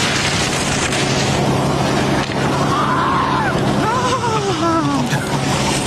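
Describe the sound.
Midway through, French skier Yannick Bertrand, hit between the legs by a slalom gate pole while skiing down a slope, lets out a pained scream in drawn-out, wavering cries that rise and fall in pitch, heard over steady rushing wind noise with a commentator talking.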